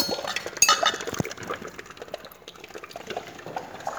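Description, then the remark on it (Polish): Liquid bubbles and gurgles steadily in a kitchen pot, moderately loud, with a few sharp metallic clinks near the start and no voices. “Mieszadła, noże, gary, kotły, pachnące zioła, słoje miotły, coś tu bulgocze.”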